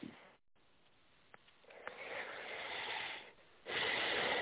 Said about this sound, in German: Gut, wir atmen jetzt ein paar Mal tief durch.